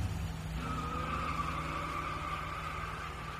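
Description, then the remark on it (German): A car engine roars loudly and steadily as the vehicle pulls away on a street, with a high whining squeal layered over the deep rumble. No one speaks. “hört sie hinter sich einen Motor aufheulen.”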